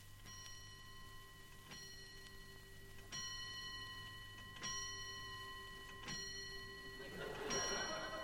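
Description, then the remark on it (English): A clock strikes eight o'clock with slow, evenly spaced chimes, each ringing on with a bright metallic hum. A steady ticking runs quietly underneath, and a voice begins faintly near the end. “Oh, heck, 8 o'clock, and I'm still at it.”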